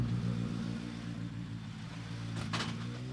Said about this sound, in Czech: No a jako když hodí do převodovky kladivo, zařadil Jakeš ve své fáby první rychlostní stupeň a odjíždí.